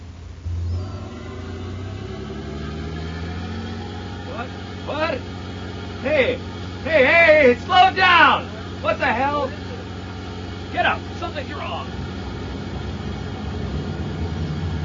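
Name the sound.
boat engine running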